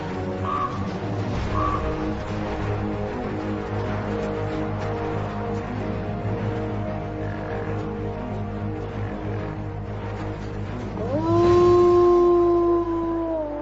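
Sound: wolf pack howling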